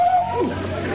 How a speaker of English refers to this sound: The cry of a mating owl. And it was answered from the other side.